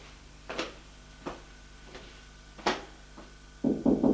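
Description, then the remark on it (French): A few spaced, muffled thuds like approaching steps, then three quick, fairly loud knocks on the wooden door of a son's hotel room, with no voices. “Va frapper à la porte de celle de son fils.”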